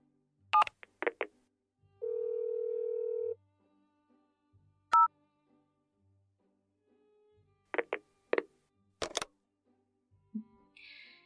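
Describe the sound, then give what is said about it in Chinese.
Telephone keypad tones as someone dials a phone to call the boss: a steady electronic tone holds for about a second, then a single short beep follows, scattered among crisp button clicks and taps, all fairly loud with no talking. “那你打电话问问你们老板吧。”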